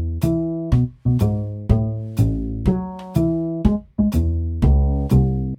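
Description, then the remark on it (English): A looper pedal, routed out into a mixer, plays back a recorded loop of bright, plucked-sounding notes with sharp attacks and ringing sustain, repeating in a steady rhythmic phrase at moderate volume, with no talking. “So and once it's recorded, like, it's there. So as I click the switch, it's still there.”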